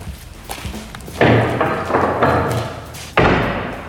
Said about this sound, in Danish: Kan vi lukke de der døre lidt sammen?